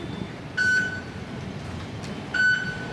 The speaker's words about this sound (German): So, Karte vorhalten, die Schranke öffnet sich. Sonst kommt nämlich keiner in die U-Bahn rein.